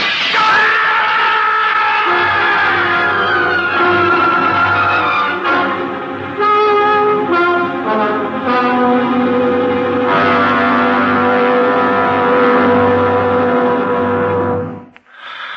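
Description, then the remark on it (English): A truck engine revs loudly, its droning pitch rising and shifting over a steady low rumble, continuing without pause before cutting off abruptly at the end. “The other truck's right behind me.”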